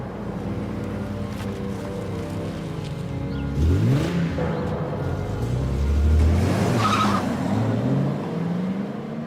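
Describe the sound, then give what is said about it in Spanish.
A red sports car's engine revs hard and accelerates away, its pitch climbing over steady road rumble, with a short high tire squeal partway through; no voices. “El secuestrador la obligó a entrar al auto y salir de allí.”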